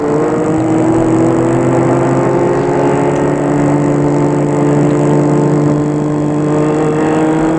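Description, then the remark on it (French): A car engine hums steadily and fairly loud throughout, a constant low drone of the motor running with no voices and no clear change in pace, as a chauffeur-driven car stops in front of a house. “La voiture s'arrête devant la maison.”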